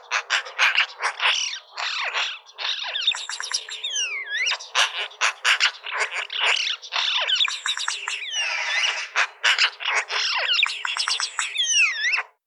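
Continuous, busy birdsong with rapid chirps, trills and repeated descending whistled phrases overlapping across the whole recording, loud and clear with no voices.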